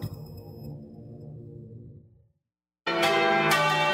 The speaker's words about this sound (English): Over 150 years ago, church bells rang at Appomattox to signal the end of the Civil War.